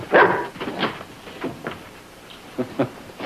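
A dog named Tiny gives a few short barks and yips, mixed with higher whimpering whines, in irregular bursts over a few seconds.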